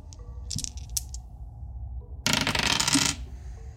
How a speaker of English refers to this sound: Spellcasting roll, 2 power points. Let's roll my dice.